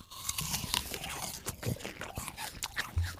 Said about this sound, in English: we're all going to bite into our apples the simultaneously